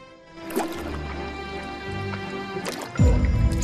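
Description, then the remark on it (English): A hatching tadpole drops from its egg into a pool with a soft, wet plop, followed by a brief watery splash and gurgle, over a sustained tonal background. “In slow motion, one drops from its egg and lands with a plop in a pool.”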